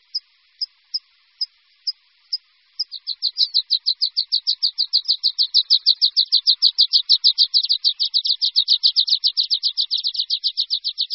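A water pipit sings alone, starting with a few spaced, high chirps that quicken into a long, rapid, buzzy trill of repeated notes, fairly loud, with no voices.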